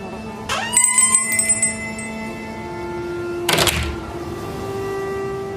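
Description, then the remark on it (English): A shop door bell jingles brightly near the start as someone enters a bric-a-brac shop, its metallic ring lingering and fading, followed a few seconds later by a single dull door thump. No one speaks. “Someone entered the witch's bric-a-brac shop, a half-price turquoise. But of course, again, there's a bell.”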